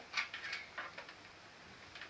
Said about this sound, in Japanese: トントントントンって。キュウリを切ってる音だよ。